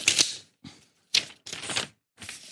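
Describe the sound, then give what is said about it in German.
Loud crinkling and rustling of plastic packaging as scissors are unwrapped, coming in four or five uneven bursts separated by short pauses, with no one speaking. “Du musst erst mal Schere auspacken.”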